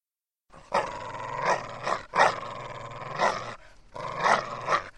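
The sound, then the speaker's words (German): A dog growls in warning in three long, rough bursts separated by brief pauses, fairly loud, with the snarl swelling and fading within each burst and no other sounds around it. “Wenn Hunde die Zähne zeigen, dann heißt das Achtung. Sie wollen uns warnen.”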